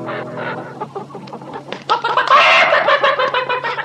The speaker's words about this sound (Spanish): ¡Anda! Parece que también está ocupado. Disculpe usted, señora gallina.